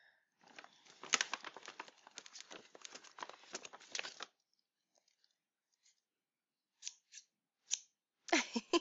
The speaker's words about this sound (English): And scissors, yes.